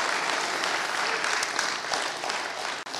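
A large crowd claps steadily and loudly throughout, a dense wash of many hands applauding together with no pauses, filling the whole room.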